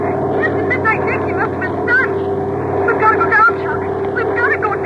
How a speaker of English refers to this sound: Those Jap Zeros are still diving. There's one coming from the nearest fortress now.